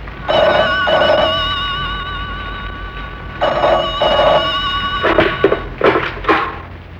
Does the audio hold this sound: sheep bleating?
no